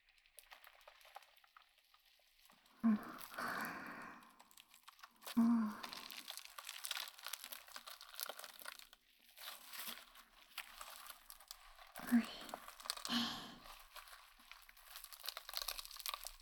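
Styrofoam rubbed and crinkled against skin around the jaw and neck, as if cleaning the face, a steady dry, squeaky scratching with several sharper, louder crunching bursts scattered through it, and no voices.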